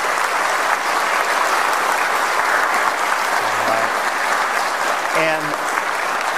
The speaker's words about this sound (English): But boy, what a tremendous amount of effort they've put in. So let's give all of them a round of applause.